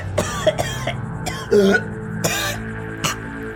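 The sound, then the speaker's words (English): A woman coughing blood after falling over, a series of rough, irregular coughs, several hacking bursts close together and fairly loud, with a low musical drone underneath. “She begins walking out of bed and she falls over and suddenly starts coughing blood.”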